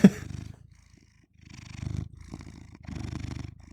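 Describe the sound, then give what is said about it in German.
A cat purrs, a low rumbling vibration rising and falling in steady breathing cycles, with brief quiet gaps between swells and no voices. “Da katzt eine Katze.”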